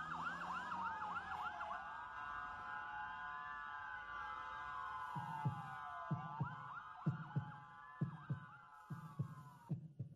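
An emergency siren wails up and down throughout, and about halfway in a steady heartbeat sound effect joins, with paired low thumps repeating roughly once a second beneath it.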